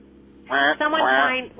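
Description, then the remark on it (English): A person does a nasal, quacking duck imitation: one short squawk, then a longer drawn-out quack, fairly loud with a thin, phone-like tone. “I sound like a duck.”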